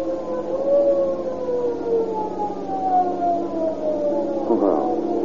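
A police siren wails steadily and loudly, its pitch gliding slowly downward for several seconds before a quick swoop near the end, with no voices.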